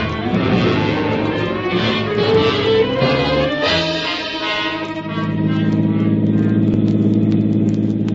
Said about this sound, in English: We rode the 6 blocks in a headquarters car, I guess it was. It took maybe 3-4 minutes, but that time I could do plenty of thinking.